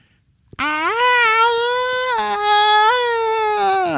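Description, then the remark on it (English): After a brief click, a sudden, sustained wail like human screaming begins, recorded by a heat-resistant microphone lowered about 6 kilometers down a deep drilled borehole. It holds for over three seconds, loud and harmonically rich, wavering slightly in pitch with no speech. “It sounded like people were screaming like they were burning in hell.”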